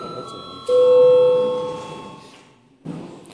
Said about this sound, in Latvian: Sēdes darba kārtība ir izskatīta. Lūdzu zvanu.